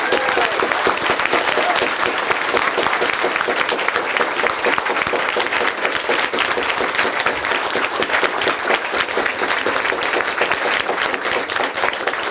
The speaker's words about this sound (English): They are amazing. It's a volunteer team from the Chaos Computer Club. They do a job like it's everything went without any trouble. And I think they deserve a special round of applauding.